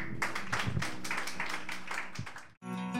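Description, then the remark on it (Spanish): An audience at a Christian worship service applauds as an offering of applause to the Lord after a closing prayer, with steady, fairly loud clapping that builds into a rhythmic pulse, then cuts off abruptly before a bright musical passage begins. “Y le regalamos un aplauso al Señor.”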